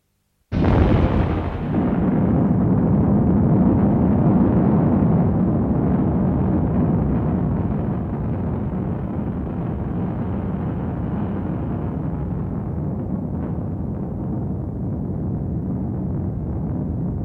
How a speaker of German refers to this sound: Er fragte sich, ob man die Explosion bis hierher hören würde.